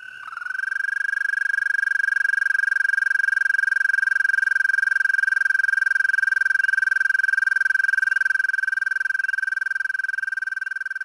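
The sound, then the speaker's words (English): A single American toad gives one long, steady, high-pitched musical trill that holds unbroken for about ten seconds, loud, with no other sounds around it. “And here's our American toad.”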